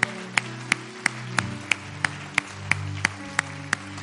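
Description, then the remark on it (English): An audience claps in unison to a steady, brisk beat after a preacher's prayer calls them to clap, about a dozen sharp claps over sustained keyboard chords, with no voices heard. “In Jesus' name, if you accept the grace of God for your life, why don't you clap your hands right now over this place?”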